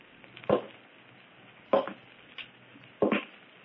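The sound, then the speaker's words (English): Slow, heavy footsteps on a roof: three dull, thudding steps spaced more than a second apart, with a fainter knock between the second and third, and no voices. “Footsteps on the roof.”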